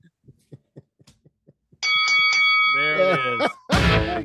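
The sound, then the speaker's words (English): A series of faint, evenly spaced taps gives way to a loud, sustained bell ringing with bright, layered overtones, rung to mark a correct answer about a favorite band's song, a voice briefly joining over it before a harsh, noisy burst cuts in. “Ring the bell. Ding, ding, ding.”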